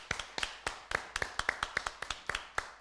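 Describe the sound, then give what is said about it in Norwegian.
Brisk hand clapping, about a dozen sharp claps in a slightly uneven rhythm, with no voices, as a few people applaud for school and kindergarten workers and for school and kindergarten children. “For nå skal vi klappe for dere, de som jobber i skole og barnehage, barnehageunger og skoleunger.”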